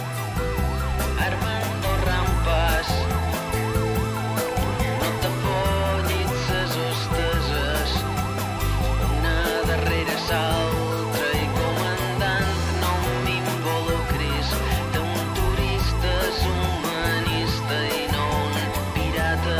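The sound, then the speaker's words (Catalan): A pop song plays at a steady, full volume with a pulsing bass line and busy layered instruments, including warbling high synth tones. No one talks over it. “Bueno, però deixa escoltar la cançó una mica, home, calla ja.”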